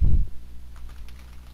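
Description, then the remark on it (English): A low thump, then a short run of soft, quick keystrokes on a computer keyboard, fairly quiet, with no one talking. “You cannot answer that by typing things.”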